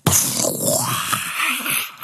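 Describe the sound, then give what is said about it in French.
A voice imitates an explosion: an abrupt, loud, breathy burst of hissing noise that rumbles on for about two seconds before trailing off. “Attendez, si, je peux vous faire des effets spéciaux. Genre, un truc qui explose.”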